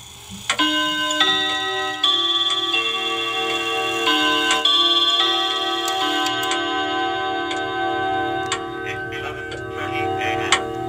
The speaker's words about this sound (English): I will demonstrate the Westminster chime that comes with the clock next.